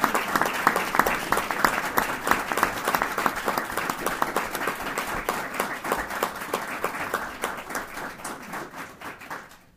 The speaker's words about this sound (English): you have an opportunity to give him a warm round of applause.